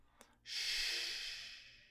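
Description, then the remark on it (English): A person imitates a single long snore for a sleeping dump truck's engine, a breathy, hissing exhale that swells quickly and slowly fades over about a second and a half, with a faint click just before. “And soon his engine slows to snores.”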